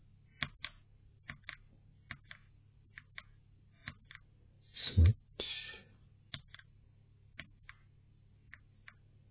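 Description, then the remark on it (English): Individual green linear mechanical keyboard switches, with a 55-gram activation force, are pressed one at a time, giving sharp, light clicks at an uneven pace. A louder cluster of clacks comes midway, over a faint low hum, with no talking. “Very smooth, easy to press. Don't need much force to press it down.”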